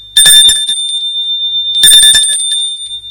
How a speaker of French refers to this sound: Il entre dans l'allée. Et sonne à son appartement. Il sonne plusieurs fois.